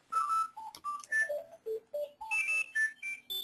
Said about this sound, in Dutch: En daar gaat mijn telefoon. Alleen mijn telefoon ligt buiten, maar ik hoor nog steeds.